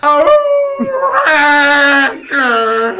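wolf howl

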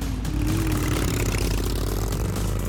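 motorcycle engines revving

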